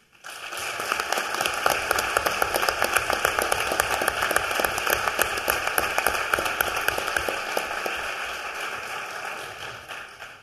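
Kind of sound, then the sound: crowd, applause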